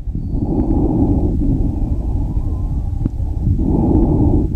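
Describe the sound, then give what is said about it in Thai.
Muffled breathing heard as a doctor listens to the lungs through a stethoscope, with slow rushing inhales and exhales and a faint, thin whistling wheeze threaded into the exhale. No talking. “อันนี้จะเปิดให้ฟังว่าเวลาหมอฟังเสียงปอดแล้วเสียงวีดที่ได้ยินจากสเตทเป็นยังไง”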